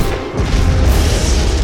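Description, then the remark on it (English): Loud blaster cannon fire rips through a gunship: after a brief lull, heavy booming blasts merge into a continuous rumbling roar with crackling, crashing impacts and no voices. “Blaster cannon fire rips through the gunship.”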